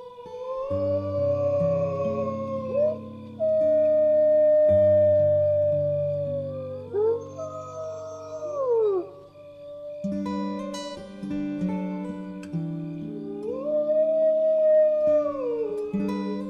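animal, wolves howling

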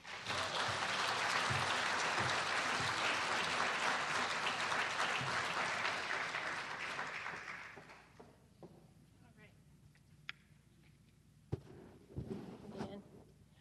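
crowd, round of applause

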